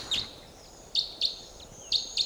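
A bird's flight call, a short, sharp, high-pitched chip repeated five times: one single note, then two quick pairs, standing out clearly over quiet background hiss with no talking.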